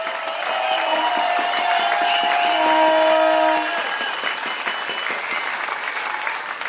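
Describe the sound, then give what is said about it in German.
A crowd standing at an outdoor protest claps steadily, a dense wash of applause lasting several seconds, with a few sustained tones or whistles rising briefly over it before the clapping continues at a slightly lower level. “Während wir hier stehen und klatschen”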